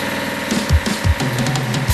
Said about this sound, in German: was schnurrt da so wie ein Kätzli? Hat das ist unser neuer Kompressor vom Renner. Renner? Ja, kennst du den noch nicht? Der ist doch aus dem Ländle. Das ist der Kompressorenhersteller für Industrie und Handwerk.